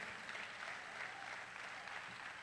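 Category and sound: crowd, audience clapping hands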